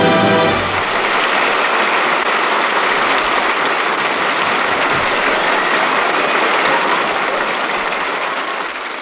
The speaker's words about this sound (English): As you hear the applause of our studio audience over the air, let it remind you that someday you, in your homes, will become part of that studio audience.